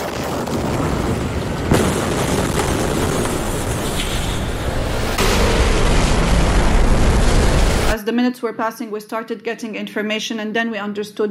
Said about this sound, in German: Nach und nach sickerten Nachrichten durch, dass es zu einer Explosion im Hafen von Beirut gekommen war.